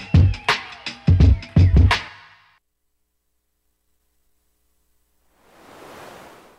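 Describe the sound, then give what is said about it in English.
A few quick plucked synth notes ring out, then silence, before a soft swell of hissing synthesized noise rises near the end, resembling a wave or gust of wind, made by modulating the amplitude of an amplifier on a noise source. “The easiest way to start to make something that sounds like, you know, wind or waves is you take this amplifier that we're using to listen to the noise source and you just modulate its amplitude.”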